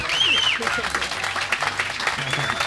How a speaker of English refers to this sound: I thought all along they was applauding for how good I picked there, but they saw you coming over the hill, man. That's what it was.